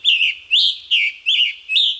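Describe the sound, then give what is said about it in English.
A scarlet tanager, as heard on the Chicago Birding Trail, sings a burry, hoarse series of five short phrases, each rising and falling in a steady, halting rhythm, bright and clear with no voices or other sounds. “And scarlet tanager.”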